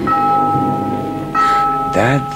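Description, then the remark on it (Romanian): A bell rings for closing time with a steady, sustained metallic tone that hangs through the whole moment, while a voice briefly murmurs near the end. “Vezi? Auzi? Abia acum sună clopotul.”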